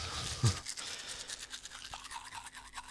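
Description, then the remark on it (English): A person brushing their teeth with a toothbrush, a steady rapid bristly rasping that continues throughout, with a brief low thump near the start and no talking. “Come on, baby, why don't you stop brushing your teeth? Come on. Here, give me the toothbrush.”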